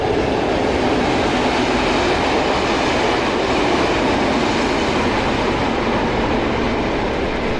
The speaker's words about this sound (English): That was a long one. Freight train, I think.